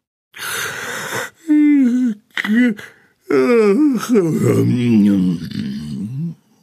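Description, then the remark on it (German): A long, drawn-out yawn of a big grey elephant walking through a zoo on a warm summer evening: a breathy inhale followed by several loud, voiced groaning stretches that slide down in pitch, performed by a voice in a tired, exaggerated way. “Ihr großer grauer Freund sieht ziemlich müde aus, wie sie finden. Und er gähnt auch die ganze Zeit.”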